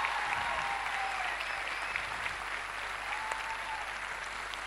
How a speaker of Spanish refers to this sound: Más fuerte el aplauso para todas.